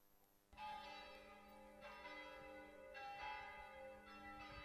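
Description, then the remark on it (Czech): The church bells of Gračanica Monastery peal loudly and continuously on Christmas Eve morning, greeting the arrival of the Serbian Patriarch. Fresh strikes land about every second over a dense, ringing wash of overlapping tones. No voices are heard. “Gračanička zvona oglasila su se na Badnje jutro da pozdrave dolazak patrijarha srpskog, a u drevnoj zadužbini kralja Milutina i oko nje okupio se veliki broj vernika.”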